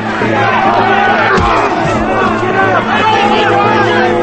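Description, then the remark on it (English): A group of men on a co-op's roof cheer and shout at a fistfight below in a loud, continuous roar of overlapping voices, with one brief thump partway through. “Men cheer from the co-op's roof.”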